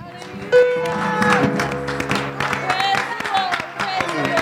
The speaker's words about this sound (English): But that's worth a hand clap of praise right there. Can we do that for a second?